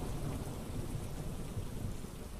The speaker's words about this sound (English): It was raining outside. Techno could hear raindrops pounding against the roof of the tent and creeping through the cracks